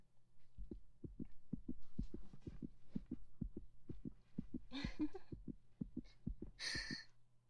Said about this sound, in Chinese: 是不是很舒缓，很有规律呢？然后呢？现在你可以对比一下，听一下你自己的心跳，看看是不是老师没有骗你呢？